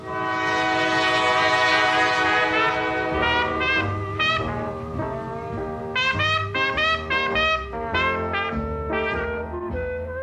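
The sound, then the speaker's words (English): A train horn blares loudly, one long sustained blast followed by a series of shorter repeated honks, over the low rumble of a passing train. No one speaks. “the train has been parked here longer than anybody, longer than I've lived here”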